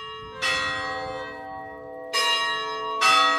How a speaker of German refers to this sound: Wenn die Glocke der Kirche am Marktplatz von Fratel läutet, hell und klar, dann hört ihr kaum noch jemand zu.